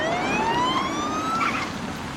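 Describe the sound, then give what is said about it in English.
The siren of an unmarked police car arriving wails, its tone sweeping steadily upward in a loud, continuous rise over a low rumble of engine and road noise, with no voices. “The ghost car arrives.”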